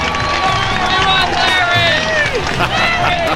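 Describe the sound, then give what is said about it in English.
A large crowd cheers loudly and continuously, many voices shouting over one another in a dense roar with clapping mixed in, full for the whole few seconds. “Is there no sweeter sound than that of your own name buried in cheers and applause?”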